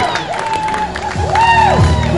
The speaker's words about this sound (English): I heard a lot of cheers, and I thought they were supposed to be in favor of the Cardinals, but they're not. They're in favor of the Mets as Adamendi is out at first base.